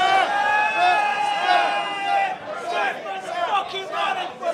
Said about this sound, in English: As you can hear, a wildly pro-Lesnar crowd, almost unbelievable. I think that sounded unanimous to me.